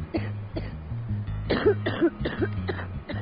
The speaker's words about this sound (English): It's just getting worse and worse and worse, and I can't breathe at night. As soon as I freaking lay down, I just cough and cough and cough, and like I'm gonna freaking die.